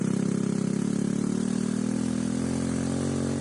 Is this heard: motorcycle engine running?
yes